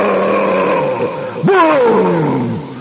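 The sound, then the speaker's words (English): A loud, continuous roar from a washing machine motor jammed by a tangled rag rug in a basement, surging sharply upward in pitch halfway through, then sliding down in a strained, falling whine as the motor goes up in blue flame and smoke. No one speaks. “Blue smoke came out of the bottom of the machine, and there was a great roar of fire.”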